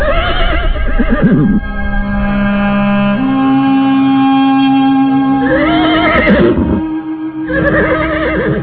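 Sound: horse neighing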